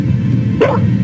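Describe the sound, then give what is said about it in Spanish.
A small dog lets out a single sharp, high-pitched bark, fairly loud, over a steady low background rumble. “El perrito ladrando.”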